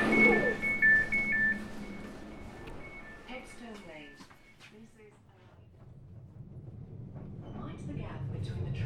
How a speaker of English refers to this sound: Yes, I do love taking a suburban train this time of year